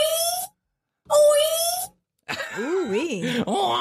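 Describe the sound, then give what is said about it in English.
A man moans aloud during orgasm: two drawn-out groans separated by brief silences, then a longer, wavering moan that rises and falls in pitch. Fairly loud, with no other voices. “That is an orgasm. That is actually a man.”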